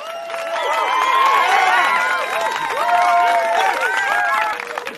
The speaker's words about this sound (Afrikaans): En toe Amen ook 'n buiging maak, juig die toeskouers en hulle klaphande.